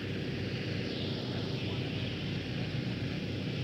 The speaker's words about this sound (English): moving just under the spinning propeller of the Marine helicopter.